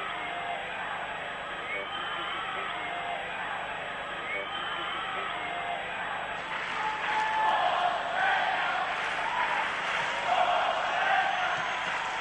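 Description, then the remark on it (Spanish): A large basketball crowd at a Juventud game roars steadily, chanting "Forza Peña" and cheering whatever Magic does, with scattered applause, the noise swelling louder in the second half as cheers rise over the constant din. “Ahora se oyen los gritos de Forza Peña cuando el triple de ellos presa no toca ni el aro.”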